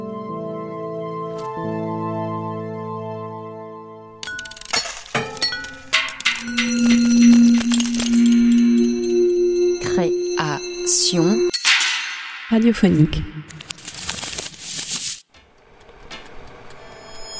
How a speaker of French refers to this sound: Tiens, on entend les cloches des moutons.